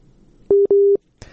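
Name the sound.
telephone busy tone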